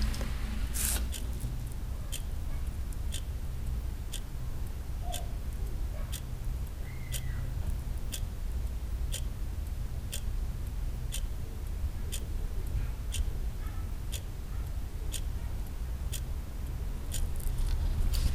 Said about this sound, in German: Und während du das Echo dieses Wohlgefühls in dir zur Kenntnis nimmst, hörst du das Ticken einer Uhr und hältst deine Aufmerksamkeit wach.